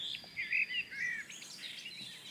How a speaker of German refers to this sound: Und jetzt die Gartengrasmücke halt eben.